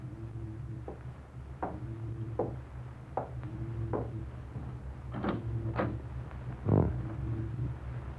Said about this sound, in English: Open the door, Miranda. Let me in the cabin.